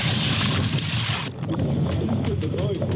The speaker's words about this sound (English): This happened on a boat. Some guys fishing for snapper when a great white shark started circling their boat. The guys put a GoPro in the water and recorded the shark biting the boat. Check this out.